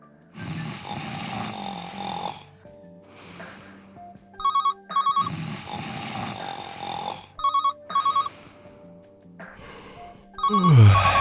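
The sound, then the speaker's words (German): A telephone at a workplace telephone switchboard rings in short repeated electronic bursts, interrupted by loud heavy snoring that swells and fades between the rings, fairly loud. “Scheiß Telefon.”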